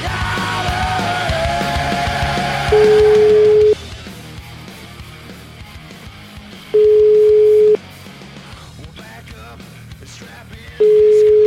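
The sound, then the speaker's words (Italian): A phone call's ringback tone while calling Lattanzi: three steady one-second beeps spaced about four seconds apart, clear and loud over a low background hum, with no one answering yet. “Io chiamerei questo Lattanzi per capire se effettivamente se l'è presa con Berlusconi, oppure non gliene frega un cazzo.”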